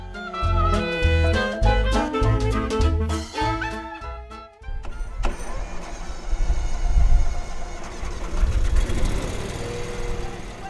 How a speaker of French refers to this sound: Là, ce qu'on entend, c'est le moteur d'une grosse tondeuse à gazon.